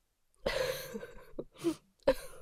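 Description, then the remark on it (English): Wet nasal sniffing from someone with a lot of snot who is huffing vapor rub: one long congested inhale through the nose, then a few shorter snotty sniffs in quick succession, with no talking. “Oh, I'm gonna huff my vapor rub again. There's so much snot, and I forgot to bring a tissue.”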